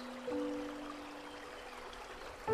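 A steady, gentle rush of flowing water, like a small stream, runs continuously at low volume, with a faint sustained tone humming underneath.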